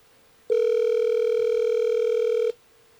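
A single steady ringback tone from an outgoing phone call, one loud electronic buzz lasting about two seconds before cutting off, heard alone over a faint line hiss.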